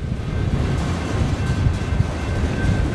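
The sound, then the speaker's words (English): A long oil tanker freight train of about 100 tank cars, more than a mile long, creeps slowly past in freezing weather at minus five, a steady heavy rumble with a thin metallic whine running above it throughout, no voices. “freezing, minus five, and I'm watching an oil tanker train creep past me.”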